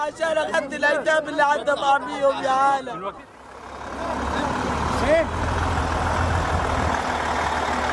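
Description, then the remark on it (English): A voice speaks briefly, then gives way to the steady, loud rumble of heavy lorries moving goods that have gone through security checks at Kerem Shalom, Israel's main crossing into Gaza, with a short rising squeal partway through. “Lorries move goods that have gone through security checks at Kerem Shalom, Israel's main crossing into Gaza.”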